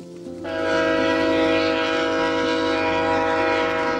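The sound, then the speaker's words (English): Via Rail's The Ocean passenger train sounds its horn as it winds through the Tantramar Marshes near Sackville, New Brunswick, one loud, sustained multi-tone blast that swells in after a brief rumble and holds steady to the end, with no voices. “competing with the sound of Via Rail's The Ocean as it winds its way through the Tantramar Marshes.”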